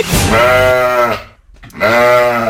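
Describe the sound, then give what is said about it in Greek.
Two loud sheep bleats, each a long wavering cry, separated by a brief pause, with no talking. “Άλλο το πρόβατο, άλλο η αγελάδα.”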